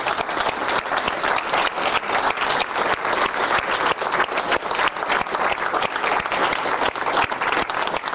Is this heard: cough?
no